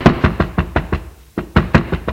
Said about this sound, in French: Dirigé vers la ferme voisine et frappe à la porte avec ses poings.